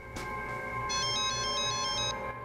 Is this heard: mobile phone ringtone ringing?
yes